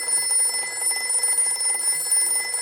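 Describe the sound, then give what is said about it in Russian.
A telephone bell rings without pause, a bright, metallic, steady jangle with shimmering high overtones that holds at an even loudness throughout. No one speaks. “О, это мне из университета звонят.”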